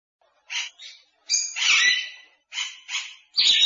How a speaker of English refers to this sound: Parrot is a very naughty bird.